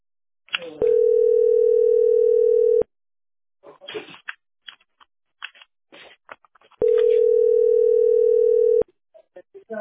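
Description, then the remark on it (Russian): A telephone line tone sounds twice during a call to Shushary electricity service, each a steady mid-pitched beep lasting about two seconds, with a long pause between them in which people talk. “Это куда ты звонишь?”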